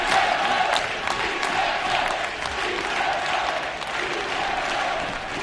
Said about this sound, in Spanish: Vamos, vamos, y gritos de sí se puede, sí se puede. Lo escuchamos.